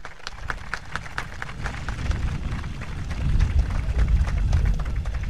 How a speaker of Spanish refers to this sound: Solicito, por favor, un fuerte aplauso.